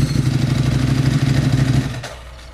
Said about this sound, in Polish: Po chwili do jego uszu dobiegł dźwięk motocykla, którym uszatek skądś wrócił.